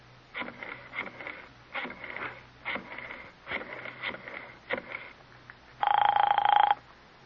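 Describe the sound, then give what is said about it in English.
A telephone rings: a series of short rattling bursts is followed by one long, steady buzzing ring, fairly faint with no one answering. “Doesn't he answer?”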